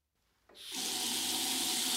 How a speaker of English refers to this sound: you must turn off the water when you clean your teeth. You're right. We mustn't use a lot of water.